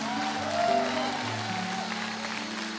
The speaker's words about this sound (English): Friends, I want everybody in this room to clap your hands like you're going crazy today.